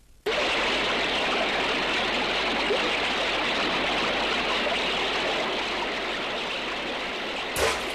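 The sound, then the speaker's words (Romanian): A steady, dense rush of flowing river water fills the whole scene, continuous, beginning abruptly and ending with a brief splash-like burst near the end. “Uite, râule! Îți dau pantofii mei cei roșii.”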